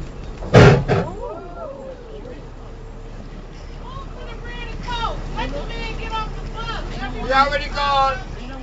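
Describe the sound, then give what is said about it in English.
A Detroit city bus from an aging fleet scrapes hard against a curb along busy Woodward Avenue in one loud, grinding burst, followed by squealing tones as people chatter over a steady traffic rumble. “One of Detroit's aging bus fleets scrapes against a curb along the busy thoroughfare of Woodward Avenue.”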